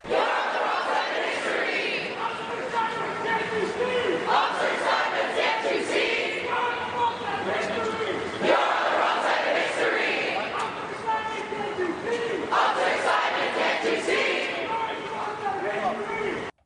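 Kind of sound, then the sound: crowd, protesters chanting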